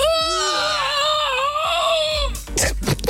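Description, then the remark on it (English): A voice imitates the groan of a sore runner who has done the marathon, bending down to put a sock on: one long, drawn-out moan of about two seconds with a wavering, strained pitch, followed by a few breathy, rustling bursts. “That was my impression of someone that's done the marathon.”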